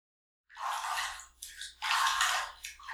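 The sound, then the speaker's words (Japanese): Shower water sprays in uneven, hissing bursts that surge and dip in a hotel shower, with a low hum underneath and no one speaking. “荷物を置いたら、まずはシャワーを浴びようか。”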